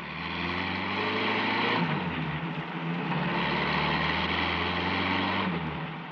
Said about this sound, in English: The truck rode down Burr Street, switched off to the main highway, and tore along doing 70.